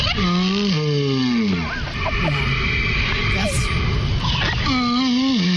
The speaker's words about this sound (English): That's a tortoise mating